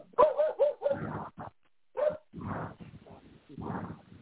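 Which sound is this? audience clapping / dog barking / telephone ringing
dog barking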